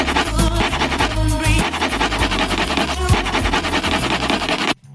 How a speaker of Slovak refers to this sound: A popri tom stieraní počúvam svoj obľúbený hit. Takže vy teraz dobre natiahnite uši, aby ste zachytili, aký hit počúvam popri tom, ako stieram žreb od Tiposu.